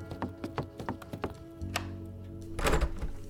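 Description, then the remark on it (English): A door opens: first a quick run of soft, evenly spaced thuds, then a sharp click and a short, louder scrape or rush of noise, with no one talking. “Joey Everknuckle, can you get the door? Yeah, I got it.”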